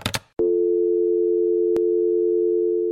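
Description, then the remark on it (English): A brief clatter of a handset being put down, then a loud, steady telephone tone holds on after the hang-up, humming at a constant pitch with a single click partway through. “Can put the phone down first.”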